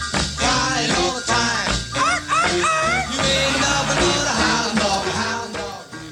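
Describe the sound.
Loud, busy 1955 rock and roll recording by a band, with voices barking "arf arf" in imitation of a dog, short yelps woven rhythmically into the music throughout.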